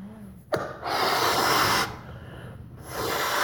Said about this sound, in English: We're going to do a little experiment here first with one of these balloons. I can blow up. I'll blow them up, okay? Get it ready?